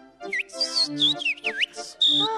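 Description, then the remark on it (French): A tailor whistles a quick, lively tune of sliding, swooping notes with short breaks between phrases, fairly loud, with no talking. “Un tailleur qui siffle.”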